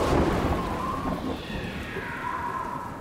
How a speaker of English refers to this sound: Would you believe there was this gust of wind and it caught me up and propelled me all the way to the Potsdam railway station?